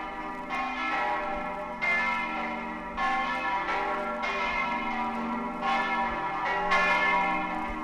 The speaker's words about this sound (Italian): Queste che state ascoltando sono le famose campane di San Giusto. E intanto, dalla torre campanaria, lo sguardo scende e abbraccia l'intera città di Trieste